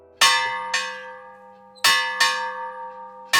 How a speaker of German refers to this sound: Für mich läutet er die Glocke. So hat es zur Wikingerzeit geklungen.